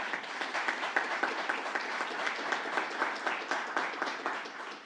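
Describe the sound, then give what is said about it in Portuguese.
An audience applauds at the close of a formal ceremony, dense overlapping claps filling the space at a constant moderate level for the whole stretch, with no voices standing out. “Salva de palmas para todos vocês.”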